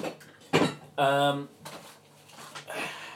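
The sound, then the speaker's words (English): A metal pan lid, picked up from the floor, clanks sharply, then rings briefly as it is handled, followed by softer knocks and rattles of it being put away in a cupboard. “I've still got stuff on the floor, actually. Oh, including a lid. No wonder I couldn't find it. I always knocked it out the cupboard.”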